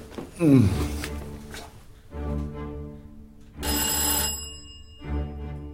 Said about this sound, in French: Tu vas lâcher ma sonnette?